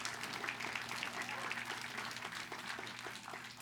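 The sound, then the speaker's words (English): A crowd claps steadily for people being called up to speak, a dense wash of overlapping hand claps at an even loudness throughout, with a low steady hum underneath and no clear voices. “You guys can clap for them because we love them so much.”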